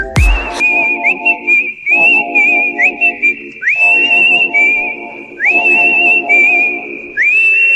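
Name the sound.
person whistling indoors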